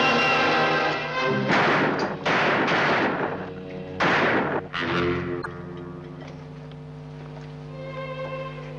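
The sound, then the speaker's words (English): About five loud gunshots go off in an irregular burst, each a sharp crack with a short ringing tail, over a steady dramatic music bed that carries on after the shooting stops. “He only nicked my arm.”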